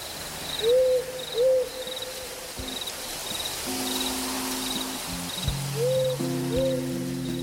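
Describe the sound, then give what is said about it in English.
A burrowing owl gives two soft, paired hoots early on and another pair near the end, over a steady background of chirping crickets and low outdoor rumble. “Do you know about the burrowing owl? Well, it's a species of owl that lives in underground dugouts or holes in California.”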